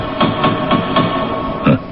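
Knocking on a gate: four steady, evenly spaced dull thuds, a short pause, then one more slightly louder knock, with no voices.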